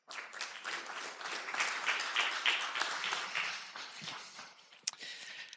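Sustained applause from an audience, many hands clapping in a dense, steady patter that holds for several seconds before thinning out, with a sharper clap or knock near the end.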